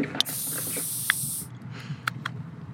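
A sharp click followed by a steady, loud fizzing hiss that lasts over a second as a can of energy drink is cracked open, then a few soft clicks and rustles afterward.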